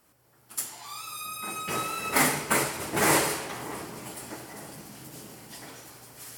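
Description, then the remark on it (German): The automatic doors to a shop beside a busy warehouse open and close repeatedly, sliding with a rising mechanical whine, followed by a few dull thuds and rattling rumbles as they move, over a steady low hum, with no talking. “Das ständige Öffnen und Schließen der Türen zum Laden hin gehört mit zur akustischen Kulisse”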